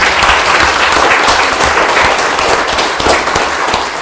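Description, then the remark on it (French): Sustained applause from a sizable crowd for the sponsors of an event, dense overlapping claps at steady loudness filling the whole stretch, lively with no speech on top. “Ben, on peut une main d'applaudissement pour eux.”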